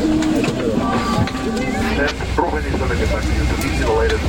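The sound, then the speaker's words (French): Steady low hum of a full airplane cabin during boarding in economy class, with a constant murmur of passengers talking and faint music playing in the background, evenly loud throughout. “On entre dans l'avion.”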